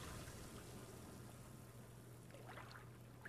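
Ocean waves on a beach make a soft, continuous rushing wash of water, fairly quiet and steady with no sharp crash, over a faint low hum.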